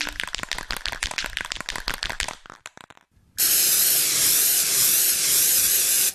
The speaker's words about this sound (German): Vorsicht, Jeff! Da ist eine riesige, unheimliche Schlange. Das ist Cobra Khan, der Schlangenfürst. Bring das Mikro in Sicherheit. Sein Gift ist ätzend. Achtung, Jeff, er sprüht.